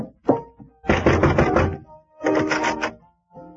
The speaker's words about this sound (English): I'll go up and knock on the door here.